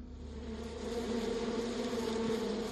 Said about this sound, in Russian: Я услышал жужжащий говор насекомых, и в лицо мне повеяло ласковым весенним утром.